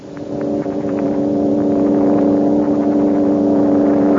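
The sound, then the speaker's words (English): A heat ray sound effect, the ray melting the ground around a mold: a loud, steady mechanical drone of layered humming tones that swells in over the first half second and holds unbroken to the end, with no voices. “Here goes the heat ray.”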